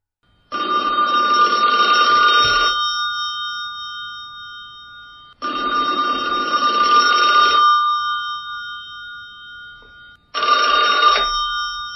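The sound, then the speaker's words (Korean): A telephone rings with a threatening call to Han Kwang-hee and his family after his book was published, in three long, loud bursts of bright, trilling bell tone separated by pauses of silence, with the last ring cut short. “책이 발간된 이후 한광희와 그의 가족들을 협박하는 전화가 밤낮을 가리지 않고 계속됐습니다.”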